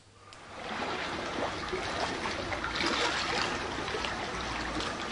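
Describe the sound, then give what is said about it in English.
Soft, steady lapping and trickling of gentle water, a continuous low wash with light splashy textures throughout, moderately quiet, with no voices. “And at the moment, the water is very gentle. See if you can hear the water.”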